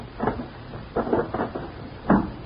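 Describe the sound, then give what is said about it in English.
A wooden desk drawer is shoved shut in a few dull knocks and rattles, ending in one firmer thud, with no voices. “Close that drawer like I told you to.”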